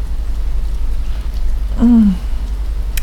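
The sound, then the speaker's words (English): Heavy rain hisses steadily throughout, a dense, even wash of noise with a low rumble beneath, briefly joined by a short falling vocal sound partway through. “You know, with all this heavy rain, I doubt anyone could see us.”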